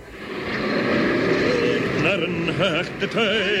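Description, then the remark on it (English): Steady street traffic on the corner of Socky Hall Street in Glasgow forms a continuous broad rumble and hiss throughout, and a singer on the street corner begins singing with a wavering pitch over it in the last second and a half. “You may hear some traffic noise.”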